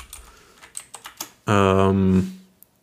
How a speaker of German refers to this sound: So, jetzt hört ihr meine Tastatur, das wird lustig.